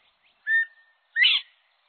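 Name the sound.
northern bobwhite whistled call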